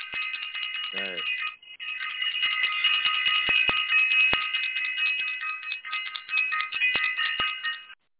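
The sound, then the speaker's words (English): A bright, high bell sound effect rings almost continuously for about eight seconds, its shimmering tones holding steady, with a brief falling swoop and short dip early on and scattered light clicks. “Please ring the bell for self-invested again.”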